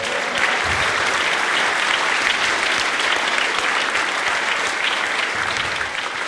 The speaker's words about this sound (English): Round of applause for that guy.